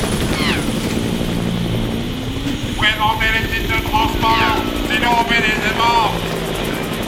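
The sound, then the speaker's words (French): A helicopter passes overhead, its rotor chopping in a steady, loud thump throughout, while excited voices call out over the engine noise. “Oh, regardez, c'est l'hélicoptère de la Star.”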